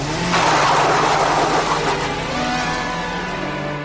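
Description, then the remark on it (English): A car engine revs loudly, then the vehicle pulls away, its engine note sustained and gradually easing as it drives off. No one speaks. “She said she was too phased to get the registration number, but as she was driving back, mourning the cosmetic surgery done to her T-Reg Toyota, the same car deliberately cut her up.”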